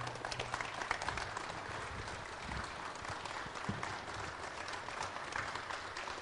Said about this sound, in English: So thank you. I think we owe him a standing ovation, not just a round of applause.